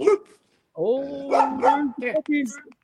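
A dog barks, a short bark followed after a brief pause by a run of drawn-out, whiny barks and yelps that rise and fall in pitch.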